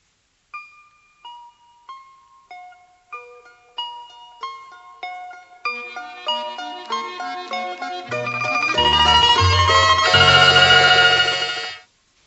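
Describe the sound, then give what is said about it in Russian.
Church bells ring out, starting with single tuned strikes that quicken and multiply into a loud, dense peal with deep low bells joining before it cuts off abruptly. “Колокола.”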